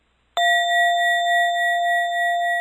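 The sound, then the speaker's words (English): A single mindfulness bell, programmed to ring from a computer, is struck once and rings out with a clear, sustained shimmering tone that lingers steadily without fading much, fairly loud with no voices. “This bell, which you can program to ring randomly from your computer while you surf the net, is another mindfulness tool.”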